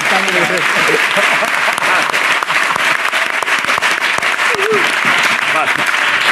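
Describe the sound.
Loud, sustained applause from a crowd for an audience member fills the whole stretch, a dense wash of many hands clapping, with voices talking and calling out underneath.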